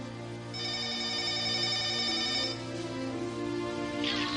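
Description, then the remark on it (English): A telephone rings with a steady electronic tone, a sustained bright chime over a low hum, loud, with no one talking. “I don't want to be late for school today, and the phone's ringing.”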